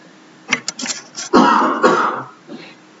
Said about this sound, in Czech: Můžete snížit kvalitu mého slova, pozor, pokašlávám, tak nekašlu na vás.